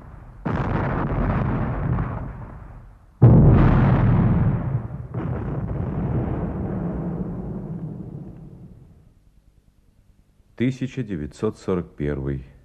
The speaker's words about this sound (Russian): Стреляют.